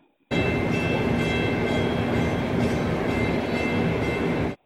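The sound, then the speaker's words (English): A North Shore Scenic Railway train rumbles and clatters steadily along the tracks, loud, with a dense rolling roar and faint tonal squeal for several seconds before cutting off abruptly. “Well, C is the railroad.”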